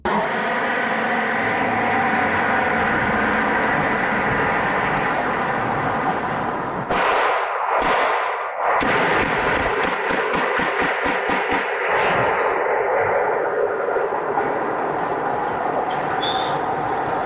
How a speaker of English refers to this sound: And somebody, and I got the neighbor's permission to share this, his Ring camera captured when a car goes flying down the street, and then you hear the shots. So, trigger warning here, you're about to hear some gunshots.